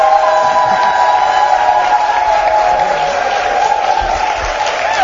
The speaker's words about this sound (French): Bienvenue dans cette deuxième partie de l'émission Capi Service. Tonnerre d'applaudissements!